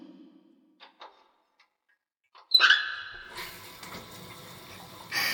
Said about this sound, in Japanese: シャワーできれいにしてあげる。